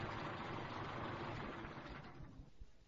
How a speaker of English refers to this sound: Wait a minute. Let me turn off my engine.